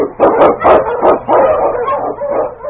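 King, a husky Eskimo lead dog in the radio drama Challenge of the Yukon, barks in a quick run of sharp, excited barks, then trails into longer, drawn-out yelping howls. No one speaks.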